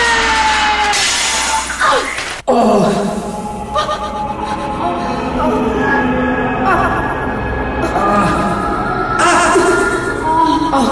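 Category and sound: sound effect, mirror shattering into pieces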